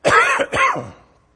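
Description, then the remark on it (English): A person clears their throat and coughs in a quick, rough burst of two or three harsh hacks, fairly loud, then it trails off into quiet. “And I'm fixing the cough. It's going to be bad.”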